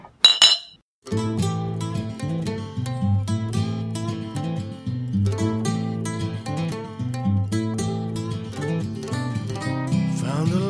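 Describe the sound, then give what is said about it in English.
Glasses clink together in a quick, bright toast right at the start, ringing, before a band's music kicks in and plays steadily to the end. “Cheers. Cheers. Cheers.”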